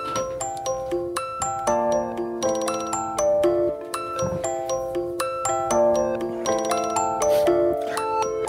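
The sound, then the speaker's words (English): The theme tune of a TV show that debuted on 27 March 2005 plays on its own, a bright, chiming melody of bell-like notes in a steady, bouncy rhythm that repeats at an even loudness, almost like an alarm tone. “Oh, it's the theme song. Sounds like an alarm.”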